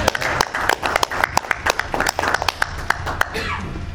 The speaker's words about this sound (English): First, I think we should give a round of applause to 4-H and the Searchlight Miners Robotics Group.